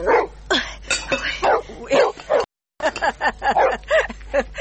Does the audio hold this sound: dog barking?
yes